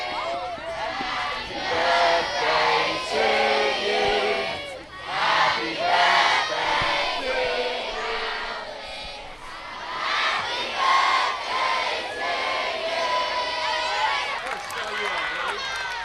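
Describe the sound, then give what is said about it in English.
A large crowd of schoolchildren from Currumbin State School shouting and cheering together, a dense, continuous wash of high excited voices that swells and dips over about sixteen seconds. “There's a really strong crowd building here, and the majority of that crowd is made up by kids from Currumbin State School who we've just heard sing happy birthday to the late Alex Griffiths.”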